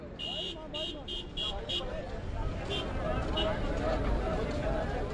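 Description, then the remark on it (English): Migrant workers in Dubai scramble onto one of the few public buses back to their labor camp, amid a dense, continuous din of overlapping voices and jostling, opened by five quick electronic beeps, with a couple more faint beeps later. “Migrant workers fight to get on one of the few public buses to take them back to their labor camp.”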